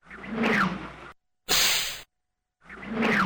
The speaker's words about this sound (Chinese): 陈玉欣的鞭子冲着空中用力地挥了几下，嗖嗖作响。